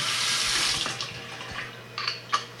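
A just-heated tea kettle gives off a steady, fairly loud rushing hiss like churning water, broken by scattered soft pops and ticks, with a short brighter squeal near the end.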